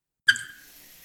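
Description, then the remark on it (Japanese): In a bathroom, shower water bursts on abruptly after a brief silence to warm the body, then settles into a steady hiss of spray that continues without pause. No one speaks. “まずはシャワーで体を温めましょう。”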